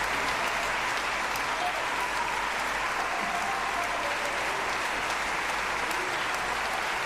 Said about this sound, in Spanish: Mira qué aplausos. ¿Qué es lo más que le puede gustar a un actor, a un cantante, a un cantante de ópera? Que te reconozcan, que se levanten y que te aplaudan. Que te aplaudan.